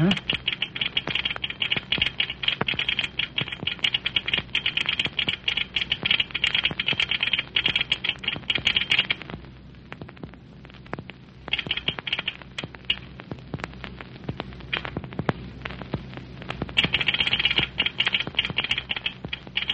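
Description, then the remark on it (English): Rapid, irregular clicking of a telegraph key worked by a railway station agent taps on steadily, thins out briefly near the middle, then picks back up in quick sharp bursts. “Yeah, we might do that when the agent fella gets through telegraphing.”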